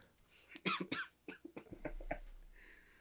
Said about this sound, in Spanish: Pero, puta, estaba con una tos ahí.